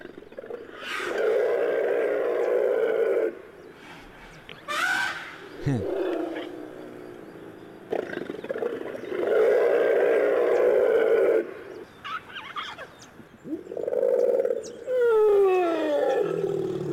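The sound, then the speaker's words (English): A herd of elephants at Werribee Zoo calls together as they are reunited, in loud, overlapping rumbles and trumpeting blasts, with several bursts rising and falling over about seventeen seconds and a few sharp, squealing trumpets near the end. “And this is the sounds that the whole crew, the whole elephant crew were making when they were reunited.”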